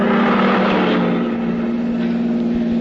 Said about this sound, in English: Is that a car coming? Oh, it's a truck.